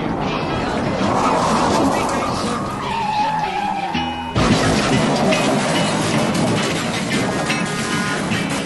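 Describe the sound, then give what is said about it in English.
Race cars roar and skid with a sliding tire squeal, then a sudden break gives way to a dense, loud burst of crashing and engine noise as the rookie Suarez goes up and over Regan Smith in a big crash, with indistinct voices mixed underneath. “That's the rookie Suarez up and over Regan Smith, the big one.”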